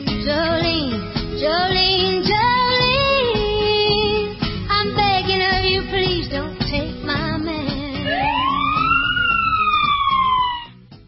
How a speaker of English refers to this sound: There's those sirens again. Well, they must have a broken siren because of budgetary reasons across the United States. A lot of police departments, they're short on the sirens.